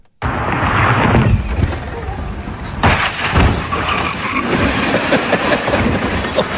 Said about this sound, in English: Well, this must be the place because these guys took a Tesla and launched it over this hill. Just listen to the audio. When it goes silent, that's when the Tesla is in the air and it seems like it's in there forever.